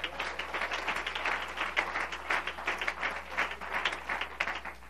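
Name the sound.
audience clapping hands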